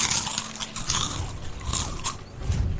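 Several people bite into potato chips together on a count of three, a burst of sharp, crackly bites followed by continued noisy chewing and crunching, fairly loud, with no talking.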